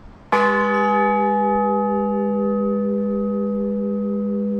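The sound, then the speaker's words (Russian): A single deep church bell strike rings out loudly, its rich tone and overtones sustaining and humming steadily without fading for several seconds. It is the blagovest, the main bell ringing that calls parishioners to a church service. “В детстве, как я общался со звонарями, это основной звон, созывающий к службе прихожан.”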